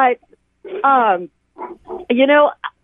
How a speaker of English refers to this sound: And sorry, I think you're hearing my foster dog weigh in here.